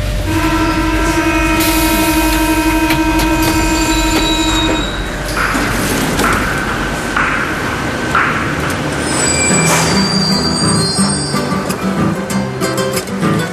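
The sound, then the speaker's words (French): Metro train wheels squeal loudly with sustained, shrill metallic tones over a heavy rumble of rolling carriages, the pitch shifting and flaring in bursts as the train moves along the track. “S'il n'y a pas trop de décès, pas trop de mariages, j'irai donc dans le métro.”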